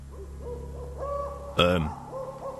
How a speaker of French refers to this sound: tu trouves normal qu'il y ait des hiboux en plein jour?